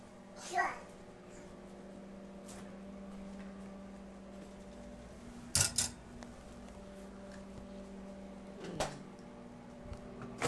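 A refrigerator door opens with a quick double clunk partway through as something is put inside, then thumps shut a few seconds later over a steady appliance hum, with a child's brief vocal sound near the start.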